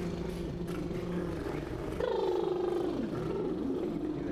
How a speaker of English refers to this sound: And then I kind of just do, like, in the beginning, I might do some lip trills. So everyone do, like, and that just kind of wakes everything up over here.